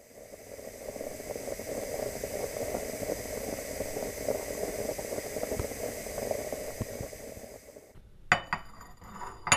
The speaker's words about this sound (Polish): Proszę się rozgościć, napijemy się kawy, może. Co? Napijemy się kawy. Dobrze, no to już przygotowuję.